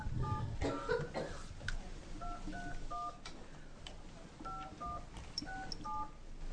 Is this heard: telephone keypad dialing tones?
yes